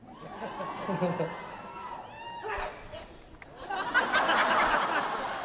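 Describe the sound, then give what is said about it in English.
A single loud sneeze, a rising 'ah' then a sharp burst, cuts through a chattering, laughing crowd, with the crowd noise swelling afterward. “That is the way I sneeze.”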